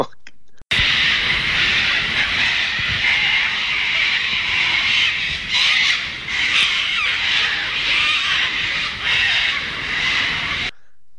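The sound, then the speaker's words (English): A flock of cockatoos flying over a campground at 7 o'clock in the morning screeches continuously, harsh raucous squawks overlapping in a dense, loud chorus that fills the air for about ten seconds before cutting off. “you did send me the recording, and it was terrible. I agree. Of the cockatoos waking up at 7 a.m.”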